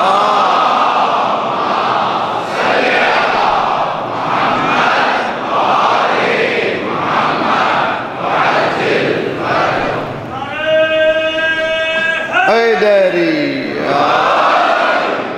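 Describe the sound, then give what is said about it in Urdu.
A large crowd recites salawat, the blessing on Muhammad and his family, together in loud, rhythmic unison, the massed voices rising and falling in waves, with a single voice briefly standing out in a sustained, wavering tone near the end. “دیکھیے صلوات پڑھی اچھی طرح سے انشاءاللہ.”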